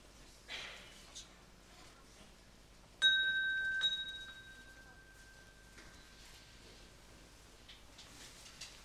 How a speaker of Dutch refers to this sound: Die gekke wekker ook. Ik weet zeker dat ik hem op de koekoekfunctie heb gezet.